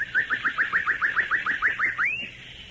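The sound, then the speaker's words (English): A person whistles an imitation of a bird call as a signal in a jungle: about a dozen quick, rising chirps in a steady rapid rhythm, ending on one longer upward-sliding note. Clear, with no talking. “That's a bird you won't see in this jungle.”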